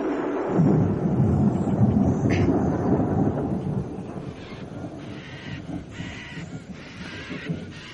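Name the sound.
thunder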